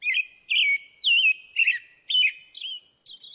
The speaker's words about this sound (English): For example, some birds have clear singing voices, like this American robin.